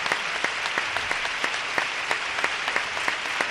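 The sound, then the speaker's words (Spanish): Thunderous applause from the audience of the Gran Teatro Falla, some standing, at 3:10 a.m. on Tuesday 14 February 2023, for a choir and for the late Julio Pardo; a dense, sustained wash of clapping with sharper individual claps popping out at an irregular beat, steady and loud throughout with no voices standing out. “Aplauso atronador del Gran Teatro Falla, cuando son las 3 y 10 de la madrugada del martes 14 de febrero de 2023.”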